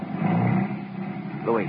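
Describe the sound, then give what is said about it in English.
A car engine rumbles steadily, a low roar that holds for a moment before a brief rising whine as it pulls away. “Then the car moved on.”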